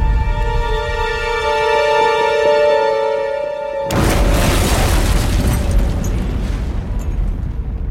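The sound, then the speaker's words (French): A steady, high-pitched racing engine drone runs for a few seconds, then a sudden loud crash and explosion erupts into a sustained, roaring rumble of fire and debris: Pierre Levesque's Mercedes racing car, going over 200 km/h, hits an Austin, takes off and smashes into a concrete wall beside the grandstand. “Catapulté en avant, sa flèche d'argent décolle et vient se briser dans une grande explosion contre le mur de béton, à côté de la tribune du public.”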